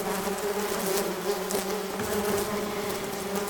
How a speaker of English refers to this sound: And I'm not just going to call so the police can come and just, like, shoot these bees just because they're Africanized.